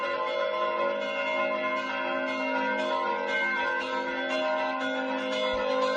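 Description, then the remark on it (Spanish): Church bells of the church of San Juan in Zamora, Spain, are rung continuously by hand, their overlapping tones blending into a dense, resonant peal that stays loud and steady throughout, with no voices. “así toca las campanas Antonio en la iglesia de San Juan en Zamora”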